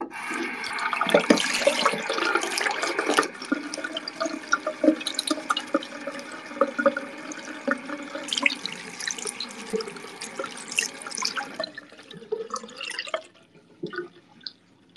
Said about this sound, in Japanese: ちょっと水の音聞いて。